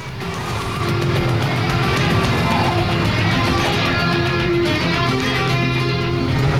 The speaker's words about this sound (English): The cab skids across a rain-soaked road, followed a few moments later by Jack's stolen car.